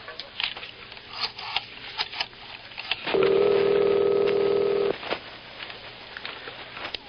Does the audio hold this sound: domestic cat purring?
no